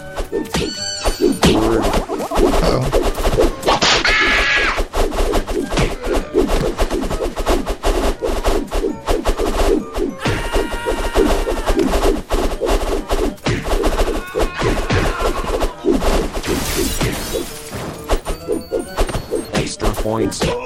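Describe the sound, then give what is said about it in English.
Sharp whip cracks in a video game, signalling the player has been hit, snap out again and again over a dense, busy wash of game sound effects, each crack loud and sudden, arriving in rapid irregular bursts. “So, the whip sound in the center means that you've been hit”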